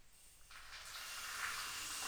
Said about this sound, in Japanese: このくらいで、大丈夫そうですね。では、シャワーで洗い流していきますので、目をつむっていてくださいね。